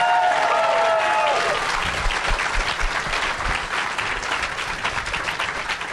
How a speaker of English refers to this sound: Which got less of a clap.